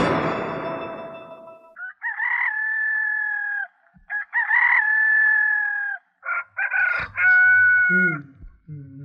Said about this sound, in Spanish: ya cantó el gallo, ya levántate, no seas flojo.